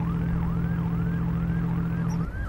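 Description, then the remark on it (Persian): A coast patrol boat's siren wails in quick, repeating rising-and-falling sweeps over a steady, droning engine hum, loud throughout, with no voices, as the patrol boat approaches a lenj (dhow). “گشت دریایی به لنج نزدیک میشه.”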